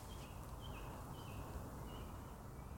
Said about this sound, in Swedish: Ja, det är någon koltrast. Och så är det den andra fågeln. Det kan vara en rödhake. Lite osäker, men koltrast hör man lite svagt där.